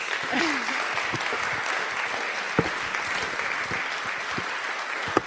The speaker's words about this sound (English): I just wanted to say, first of all, thank you very much. And can we just give him a round of applause? Because I think it was fantastic.